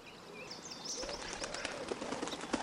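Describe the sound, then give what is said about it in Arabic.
A dove coos amid high chirping bird calls, joined partway through by a rapid flurry of soft fluttering and rustling, all at moderate volume with no one speaking. “كان يا مكان في قديم الزمان كانت هناك حمامة تريد أن تبني عشا لها.”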